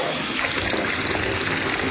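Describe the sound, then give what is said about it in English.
Water pours steadily from a running tap, a continuous gushing and splashing that stays loud and even throughout, as if left running down the drain. “The sound of water being wasted.”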